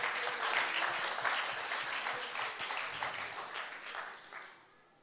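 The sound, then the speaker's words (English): A church audience claps together in praise to the Lord, a dense, steady wash of applause that holds strong for several seconds, then thins and fades toward the end. No voices stand out over the clapping. “Come on, let's clap unto the Lord.”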